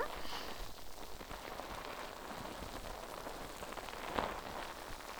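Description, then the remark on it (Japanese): Soft, steady fizzing and crackling of face-wash foam bubbles popping continuously as the foam is pressed down lightly, a dense hiss of tiny pops with one slightly sharper burst near the end, and no voices. “よし、泡洗浄はこのぐらいかな。”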